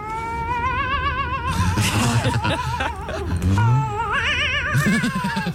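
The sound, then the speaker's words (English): A cat gives long, wavering yowls with a warbling, trembling pitch, eerie and ghostly like a haunted-house soundtrack, loud, several drawn-out cries running back to back, while the cat is jiggled slightly with a foot. “First example is horror film Music Cat”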